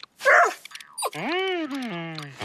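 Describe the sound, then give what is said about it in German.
A dog with fleas gives one short, sharp bark, followed after a brief pause by a long, drawn-out whining cry that slowly falls in pitch. “Der Hund hat Flöhe.”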